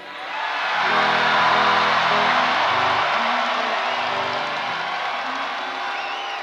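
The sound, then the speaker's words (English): A live audience at a farewell tour show in Fort Lauderdale, Florida, claps and cheers loudly, a dense sustained wash of applause with scattered whoops that swells quickly and holds steady before easing slightly. “I don't know why you're clapping.”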